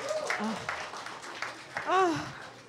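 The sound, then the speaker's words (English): Scattered, light applause from a small live audience answering who has seen the Paddington films, a few separate claps over a murmur of voices, with one rising whoop near the end. “But round of applause, who has seen The Paddingtons?”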